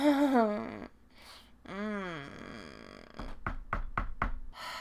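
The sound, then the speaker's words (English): About five sharp knocks rap on a door in a quick, uneven series near the end, trick-or-treaters knocking on Halloween, following a few seconds of drawn-out vocal sounds from a voice. “Can't answer the door with you doing this.”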